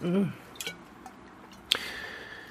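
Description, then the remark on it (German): A short vocal sound opens, followed by a couple of soft knocks, then a single bright clink of wine bottles in a toast made without glasses, ringing on with a sustained metallic tone, fairly loud. “Na, macht's ja auch nichts, dass wir keine Gläser haben. Prost!”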